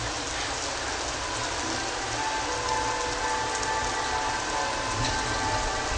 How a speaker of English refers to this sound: This is a field recording. Thunder is dying down, but it's still raining.